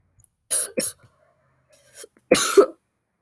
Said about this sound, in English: Sorry that I'm coughing so much, guys. Probably gonna cough quite a bit. You know, getting over a fever.